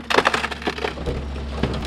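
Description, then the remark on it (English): A garbage truck crushes a couch: loud, irregular crunching and splintering wood cracks over a steady low engine rumble, with no voices. “That sound right there is a couch being eaten by a garbage truck, in case you were curious.”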